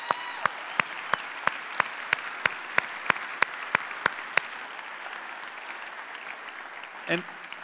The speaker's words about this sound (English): So can we, again, just by way of applause, celebrate the women that are here.